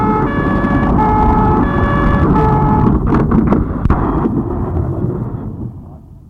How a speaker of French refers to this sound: Il entend la police, les pompiers arrivés.